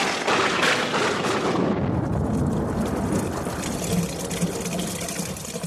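Water gushes and pours steadily for several seconds, a dense, continuous rushing and splashing that stays loud throughout, with no voices over it.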